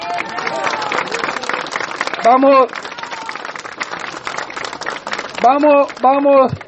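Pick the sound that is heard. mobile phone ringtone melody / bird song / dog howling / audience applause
audience applause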